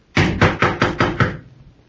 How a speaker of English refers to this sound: You going to knock? Well, all right.